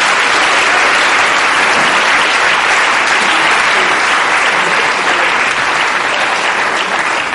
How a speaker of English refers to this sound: So a round of applause for everybody, I suppose, really.